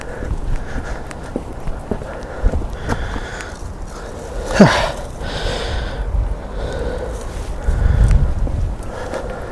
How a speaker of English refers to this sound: Right, I'm going to stop talking because I'm just breathing at you now. I'll come to you again when I get to where I'm going.